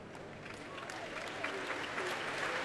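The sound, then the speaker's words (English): Steady, sustained applause from a large concert audience as Stephen Wright, leader of the BBC Symphony Orchestra, takes his place on a very crowded platform before Verdi's Requiem, with choral singers filling the tiers behind. A dense wash of clapping holds at an even level throughout with a faint murmur beneath. “Applause now for the leader of the BBC Symphony Orchestra, Stephen Wright, taking his place on a very crowded platform.”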